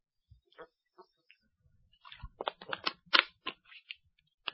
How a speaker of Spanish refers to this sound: Con permiso, voy a tomar un traguito de agua.